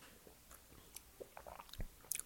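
Quiet sips of calvados, a brandy from Normandy, France, made from apples or pears: a scattering of small wet mouth clicks and slurps spread over a couple of seconds, with no one talking.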